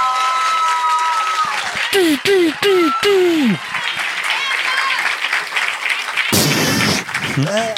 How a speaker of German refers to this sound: Und jetzt euer Applaus